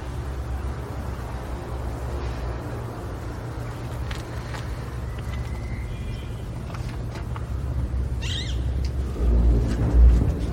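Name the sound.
car driving off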